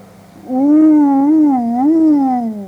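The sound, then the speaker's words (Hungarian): A voice imitates a wolf's howl: one long, sustained wavering tone, fairly loud, that rises, dips and slowly falls away over about two seconds, with no talking. “A róka farkas hangját utánozva felelt ki neki.”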